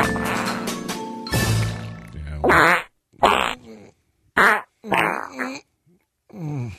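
A series of loud, sputtering fart sounds, first a long drawn-out rumble, then four or five short, wet blasts separated by brief pauses. No voices are heard.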